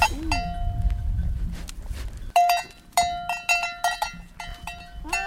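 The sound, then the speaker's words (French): Several clanking bells on goats ring repeatedly and unevenly as the goats shift about in a farm pen, with a low rumbling background early on and faint bleats. “Les petites avec les cornes, c'est les chèvres non?”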